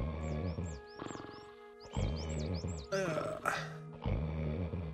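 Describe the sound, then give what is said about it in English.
A sleeping monster's loud, deep, rumbling snore in several long pulses separated by short pauses, with thin whistling squeaks riding on top of each breath. “No, that's the sleeping, monster thing that they use I hear the other part of the snore now.”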